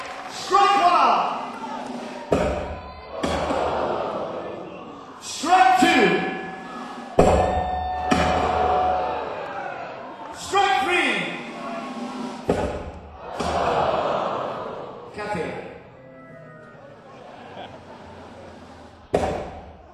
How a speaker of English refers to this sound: You have to hit that brass piece there, and if you hit that solid platinum bell there and make it ding, you get to choose any song from this big wheel.